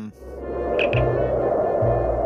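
A Star Trek communicator chirp: two quick, bright electronic blips in close succession, followed by steady low humming musical tones that activate the door of the obelisk, all over a constant hissing static bed. No one speaks.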